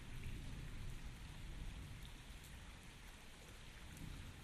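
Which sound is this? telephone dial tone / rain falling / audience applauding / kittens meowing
rain falling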